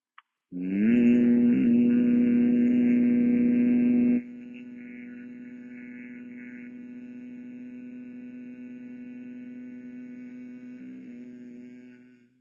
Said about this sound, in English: Index fingers hold the eyelids, elbows up, head back, close the ears, inhale. Exhale for 12 and hum. Inhale. Hum.